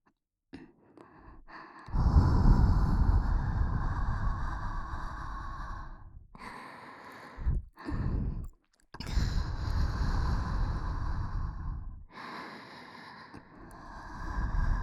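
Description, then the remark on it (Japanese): Breathy exhales blown against the microphone into the listener's ear, several long soft gusts of warm breath with brief pauses between them, loud and intimate with no talking. “お耳に柔らかくてぬくぬくの吐息いっぱい当てるよ。”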